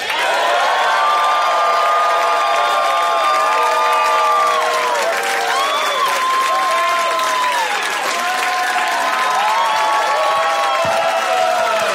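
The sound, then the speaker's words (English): A crowd at a comedy album recording in San Francisco applauds and cheers loudly and continuously for comedian Adam Ray, dense clapping with whoops and shouted voices rising over it throughout. “Make it loud in here for my good friend, Adam Ray.”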